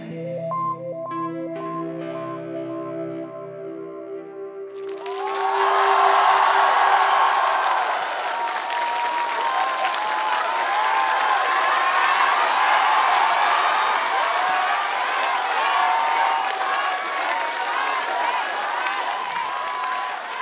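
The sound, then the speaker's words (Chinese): A song's final held chords ring out, then a large concert audience erupts into loud, sustained applause and cheering that continues steadily to the end. “也希望大家把掌声给我们的吉他手”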